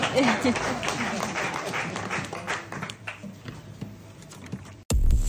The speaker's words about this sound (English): I'll take a round of applause. I'll take that, yes.